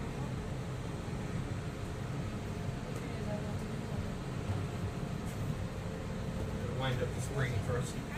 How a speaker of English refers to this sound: Ladies and gentlemen, this is our final boarding call, and the doors will be closing soon. Please board safely. Our monorail will be departing momentarily. Thank you. Please stand clear of the doors.